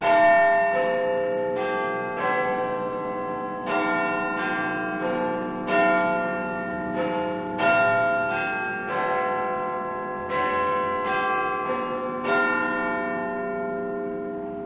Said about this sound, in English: 2. The name of the bell in the clock tower of the Houses of Parliament. Listen.